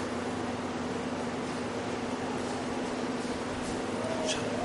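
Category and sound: machine, air conditioner running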